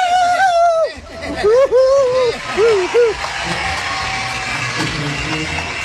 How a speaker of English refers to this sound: God, we love our crowd. We have a big crowd here at Pine Knob tonight.